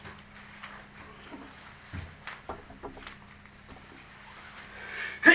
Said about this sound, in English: Bless you.